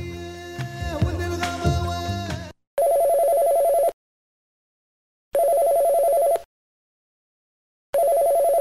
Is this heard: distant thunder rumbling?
no